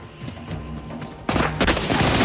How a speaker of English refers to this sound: The gang fires at Johnny at the top of the tower. He grabs hold of a pulley and slides down a taut metal wire, spraying the gang with machine gun fire.